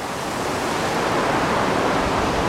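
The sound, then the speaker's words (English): A sudden big wind kicks up outdoors with a few raindrops felt: a steady, loud roar, broad and hissing, swelling slightly over a couple of seconds with no voices over it. “Big wind just kicked up and I'm feeling raindrops, but I'm not sure if it's raining or if that's just blowing off of the trees.”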